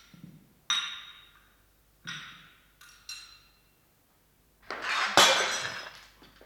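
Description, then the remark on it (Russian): A porcelain teacup from a tea set breaks: a few sharp clinks and knocks ring out, then a loud shattering crash with fragments scattering. No one speaks. “я чашку разбила от сервиза.”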